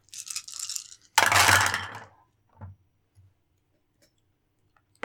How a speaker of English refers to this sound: That was a lot of dice. It was. It sounded like a lot.